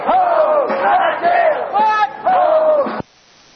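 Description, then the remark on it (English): A crowd of a couple hundred protest marchers in San Francisco chants the slogan "Homes, not jails" in unison, repeating it about four times in a steady, loud rhythm before the sound cuts off abruptly. “And that's what the folks were marching and shouting and filling the streets with, or at least about a quarter of a block.”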